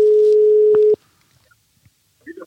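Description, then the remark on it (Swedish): A steady telephone dial tone hums for about a second, broken by two sharp clicks as a call is placed to a man, followed by near silence and a faint snippet of a voice on the line. “Vi tar och ringer … så han får chansen och snacka lite.”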